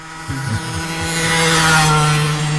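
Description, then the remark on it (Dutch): A loud, raspy moped engine drones steadily in the countryside, rising in intensity as it draws closer, its buzzing two-stroke whine filling the scene without any talking. “Ik zie daar een motor aankomen, een harde krasmotor. Wat vind je ervan? Is dat een brommer? Ja.”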